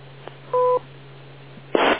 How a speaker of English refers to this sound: Wait for the beep.